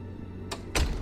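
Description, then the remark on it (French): A green door opens with a short, soft rush of sound, then shuts moments later with a louder thump. No voices, just the two quick door noises. “Tiens, voilà des portes. Epsi ? Il est là ? La porte verte, Epsi, vite !”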